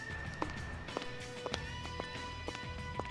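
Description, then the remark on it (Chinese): Footsteps of high-heeled boots with sharp, hard clicks fall at a steady pace, about two per second, fairly close, over a constant humming tonal background. No one speaks. “有脚步声，看来他就在附近。”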